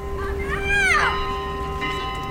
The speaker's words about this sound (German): Hell klingt das Glockenspiel der St. Thaddäuskirche. Mühelos übertönt es das Schreien der Kinder auf dem nahen Spielplatz.